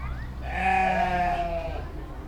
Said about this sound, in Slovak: Keď tam všetci dorazili a nakúkli cez plot, uvideli len pokojne sa pasúce a odpočívajúce stádo oviec a kôz.